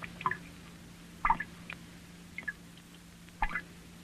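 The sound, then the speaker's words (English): Water drops fall into a small tank, picked up by an ordinary studio microphone, each landing as a short, bright plink with a slight splash, arriving irregularly about once a second over a low steady hum. “Here is some water dropping into a small tank as its sound is picked up by an ordinary studio microphone.”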